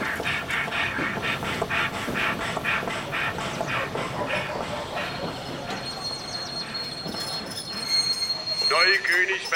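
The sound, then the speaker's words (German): An ICE train rolls along with a steady clatter of wheels on the rails, then brakes squeal in high metallic tones as it slows to a stop, fairly loud. “Und jetzt bitte ich darauf zu achten, dass der nicht einfach stehen bleibt, sondern verlangsamt, wie an einem Bahnhof auch, und dann ordentlich stehen bleibt.”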